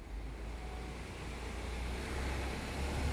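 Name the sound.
street ambience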